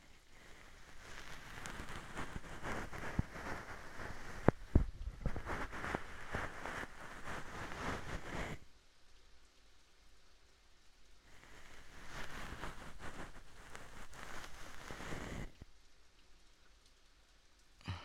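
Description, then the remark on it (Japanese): A fluffy bonten ear pick brushing in the ear as a final finishing step: two long stretches of crackly rustling, separated by a brief quieter pause, with no talking. “では最後ですね。梵天で仕上げます。”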